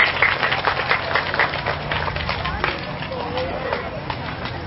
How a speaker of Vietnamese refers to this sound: Nếu thấy rằng là tấm gương của cụ Honda trong việc sản xuất xe Honda và làm giàu bằng cái nỗ lực này là có thể trở thành tấm gương học được, các cháu hãy dành một tràng vỗ tay thật lớn và thật dài để cam kết.